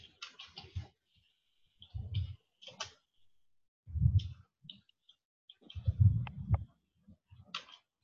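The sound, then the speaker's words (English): Irregular bursts of crisp clicking and tapping as keys on a keyboard are struck in short runs with brief pauses between, fairly quiet with some heavier thumps mixed in. “What I'm typing is the chair shall have the ability to further delegate.”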